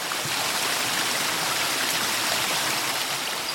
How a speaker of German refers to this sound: Das ließ sich der Junge nicht zweimal sagen. Und schon spritzte er mit einem Schlauch Wasser in das Loch, das nun mit der Folie ausgelegt war.